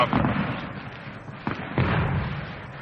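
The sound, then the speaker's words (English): Muffled fireworks rockets set off in a Bill Veeck baseball demonstration, a few dull booming pops scattered over a steady rumbling background noise. “And Bill likes to set off the rockets and the fireworks whenever he has the opportunity.”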